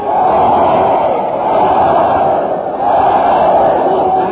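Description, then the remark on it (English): A large crowd at a train depot roars together in three loud, swelling cheers for Fred Allen as he arrives by train, each rising and briefly dipping before the next, a dense, continuous wall of voices. “Look at that crowd. They're giving three cheers for Fred Allen.”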